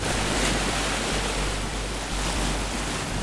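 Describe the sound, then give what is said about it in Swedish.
Steady roar of sea waves washing onto the shore in Reykjavik, Iceland, by the Solfararen sculpture, loud and continuous with broad hissing surf and some low wind rumble, no voices. “Här vid havet i Reykjavik står en smäcker stålgrå skulptur och för tankarna till forntida vikingaskepp.”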